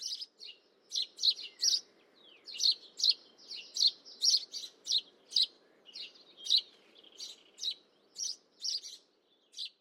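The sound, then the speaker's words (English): Serins and sparrows chirp and twitter busily, a rapid, overlapping stream of high bright notes from several birds, with a faint low hum beneath and no voices. “I'll sometimes hear these serins and sparrows as if they're inside the room with me.”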